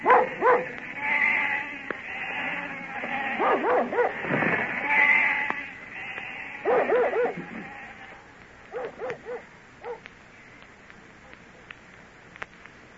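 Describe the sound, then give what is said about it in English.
A flock of sheep bleats in overlapping, wavering cries, with a dog barking among them; the calls come in bursts before thinning out to a few scattered bleats. “That's the last we'll see of the sheep till summer's over.”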